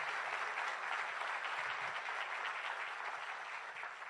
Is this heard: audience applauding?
yes